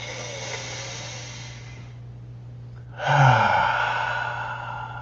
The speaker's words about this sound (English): So if you're listening to my voice, stop what you're doing. Take a nice deep breath.